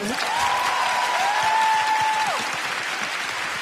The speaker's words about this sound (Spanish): ¡Un aplauso a los gays!